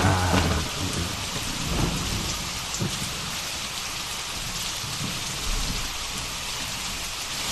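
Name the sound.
rain falling outside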